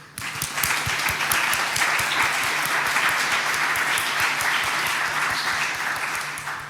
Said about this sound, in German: Chaos macht Schule, immer wieder gern gesehen hier. Bitte einen Applaus für die.